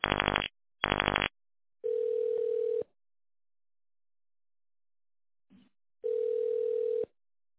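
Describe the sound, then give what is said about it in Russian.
Two short, harsh electronic beeps, then a steady mid-pitched telephone line tone while on hold after calling the company NVLab; the tone sounds for about a second, goes silent for a few seconds, and repeats. No one speaks. “Пожалуйста, наберите добавочный номер сотрудника или дождитесь ответа секретаря.”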